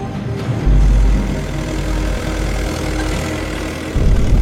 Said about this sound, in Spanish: Pero uno de los vecinos rompe la solemnidad del acto. Lo que hizo fue montarse en su tractor y estar por el exterior, pues nada, pegando acelerones para hacer ruido y molestar lo más posible la ceremonia y a los asistentes.